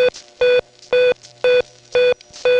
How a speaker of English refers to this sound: the special dial tone was actually a beeping signal like this.